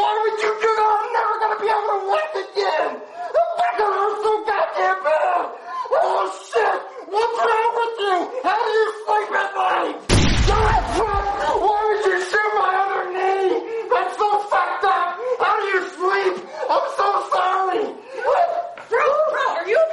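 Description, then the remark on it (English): Several voices shout and yell loudly and almost without pause, overlapping one another, with a single sharp, harsh burst of noise cutting through about halfway. “They're yelling.”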